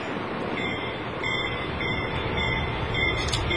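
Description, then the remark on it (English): A train rumbles steadily along a broken, twisted, curvy, warped track, its wheels grinding and squealing with high metallic tones over a dense, continuous roar that stays loud throughout. “I think while we were watching that, we expected that train to come off the track at any moment.”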